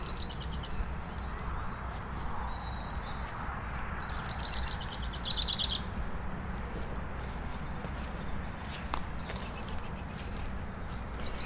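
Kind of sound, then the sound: bird, blackbird song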